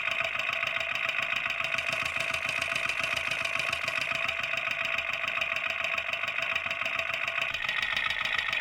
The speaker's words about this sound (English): Where I'm about to put the mic is where all the valves are. It's noisy. It sounds like a sewing machine. It's like a rattle. The valves going up and down.